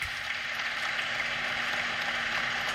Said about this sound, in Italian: Qui vi faccio ascoltare gli applausi.